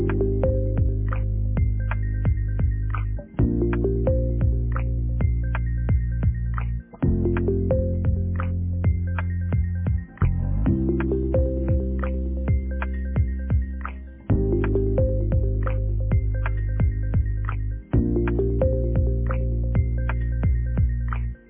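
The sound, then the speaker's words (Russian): A phone ringback plays with no answer: a loud, steady electronic melody with a heavy low drone, looping in phrases of about three and a half seconds, with brief dips between them and no voices. “Вызываемый вами абонент сейчас не отвечает.”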